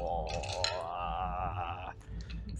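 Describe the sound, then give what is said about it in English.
Dice clatter onto a hard table with a few sharp clicks, then a sustained whirring ring as one spins before settling, followed by more faint clicks. Moderately quiet, no voices. The dice are rolled for a check of difficulty 12 in a tabletop role-playing game. “Splitting dice.”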